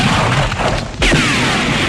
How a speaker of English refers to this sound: Bang, bang, he shot me down.